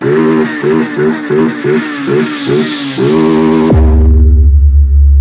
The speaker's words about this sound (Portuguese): Em frente o paredão, na máxima na minha moto invisível.